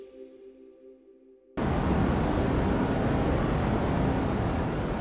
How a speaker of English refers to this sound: This is the sound of cosmic microwave background radiation left over from the Big Bang 13.78 billion years ago.